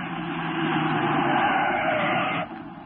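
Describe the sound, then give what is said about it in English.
A car speeds away from beside a stopped truck, driven by a man who jumped out of the truck's driver's seat, with a loud, steady roar of engine and tyre noise that holds for a couple of seconds, then drops off abruptly to a quieter rumble. “Look, he's getting in a car beside the truck, Brinkley.”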